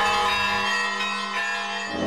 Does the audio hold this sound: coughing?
no